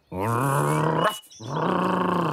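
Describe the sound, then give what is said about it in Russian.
A person loudly imitates the dog Polkan barking loudly to call a fox out of the hare's hut, giving two long, drawn-out, growly bark-like calls one after the other, with no other sounds around them. “Пошли они вместе к зайкиной избушке, подошли ближе, и Полкан громким лаем зовет лису.”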